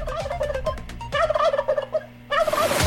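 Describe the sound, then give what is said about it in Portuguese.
A turkey gobbles in rapid, warbling bursts, loud, with a short pause midway before a final rattling gobble; no one speaks. “o videozinho do Peru, para você ver o tamanho do Peru da Nova Cidade FM”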